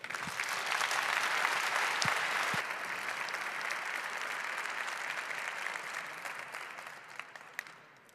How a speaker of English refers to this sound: All right, please welcome them with a big applause.